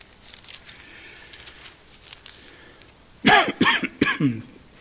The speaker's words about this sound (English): I apologize for all my coughing.